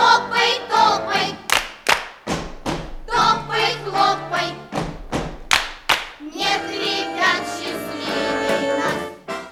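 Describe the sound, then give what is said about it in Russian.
Sharp hand claps and heavy foot stomps land in a steady dance rhythm, loud, over a bright instrumental tune that carries on between the beats, for the dance «Хлопай-топай» (Khlopai-topai) from the radio show «Радионяня». “Только мы хотим напомнить ребятам, что дома этот танец надо танцевать осторожно и не путать танец «Хлопай-топай» с танцем «Прыг-скок, обвалился потолок».”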